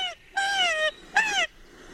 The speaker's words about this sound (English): You get this call when you've got the bird in the hand and you're swinging it upside down. It's a degree more, I think, than the last in terms of alarm.